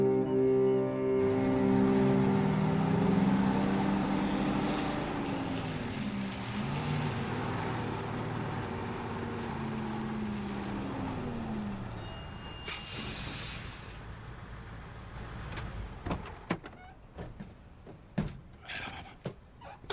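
A heavy truck engine rumbles and drops in pitch as it slows, then a sharp burst of air-brake hiss, followed by scattered clanks and knocks.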